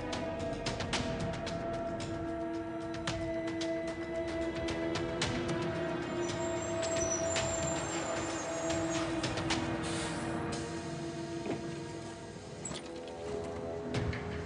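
A large bus engine idles with a steady low rumble and droning hum, fairly loud, with faint hisses and clanks over it as the bus settles to a stop at a meeting place.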